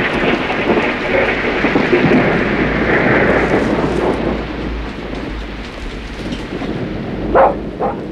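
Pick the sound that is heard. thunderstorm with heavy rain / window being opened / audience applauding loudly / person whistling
thunderstorm with heavy rain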